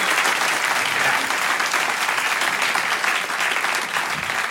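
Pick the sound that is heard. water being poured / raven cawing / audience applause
audience applause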